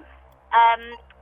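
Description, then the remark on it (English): A single short electronic timer beep signalling that a quiz time limit is up, bright and buzzy, sounding loudly for about a quarter second against a faint, quiet background. “There was a time limit on this, and unfortunately the clock beat you.”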